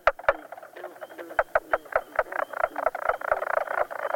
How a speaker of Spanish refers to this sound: Y aquí tienen, señoras y señores, a la rana bisón.